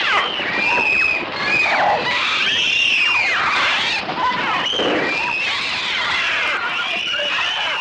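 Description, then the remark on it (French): Bird cries from Hitchcock's film The Birds: a dense, continuous chorus of shrill, electronic-sounding screeches, many overlapping cries swooping up and down in pitch, loud and unbroken for the whole stretch with no speech. “Ce ne sont pas des cris de bébés. Non, c'est des cris d'oiseaux.”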